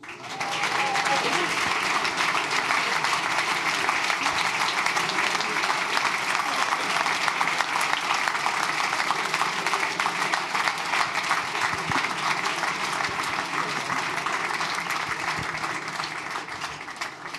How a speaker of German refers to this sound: Das ist auch das erste Mal, wo man klatscht in Zürich, wenn ich komme.